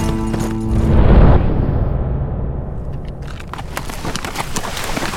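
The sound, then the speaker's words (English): Horses' hooves clip-clop in a quick, uneven rhythm as riders cross the shallow Cimarron River, over a steady rushing, splashy background, the hoofbeats growing sharper and more distinct toward the end. No one speaks. “Smoking Cow rode across the river, finding it shallow that time of year”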